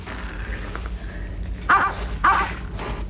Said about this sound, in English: Do you hear something? Yes, what was that? It sounded like a dog barking. Sounded like a dog barking right here. Yeah. A dog? A Springer Spaniel.